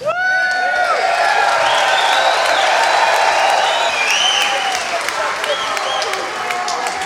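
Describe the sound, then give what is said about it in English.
A sold-out crowd inside the Beacon applauds and cheers nonstop at a band's final concert, with sharp whistles and scattered whoops rising above a dense, loud wash of clapping that fills the whole stretch. “While the sold-out crowd inside the Beacon and the multitude of fans around the world mourned the end of one of the greatest bands of all time”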